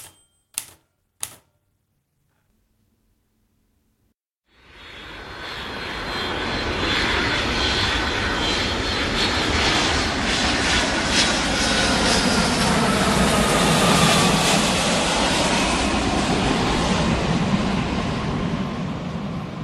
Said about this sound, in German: Verschlafen wachte ein jugendliches Mädchen auf, als das Flugzeug, in welchem sie sich befand, gelandet war.